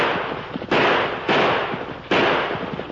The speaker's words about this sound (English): You ornery fool. You're shooting wild.